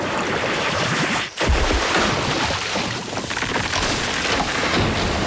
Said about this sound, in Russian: Милостью Божией да снизойдет благословение воды. Пролейся освежающей струей водный поток. Водный шар!